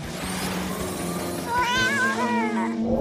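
Kittens in a moving cat-basket vehicle meow in a cluster of high, wavering cries during the second half, over a steady low rumble like an idling vehicle.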